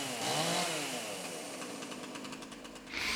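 A chainsaw engine revs up to a loud, rising whine, then holds a buzzing, throbbing drone before surging again at the end, with no voices.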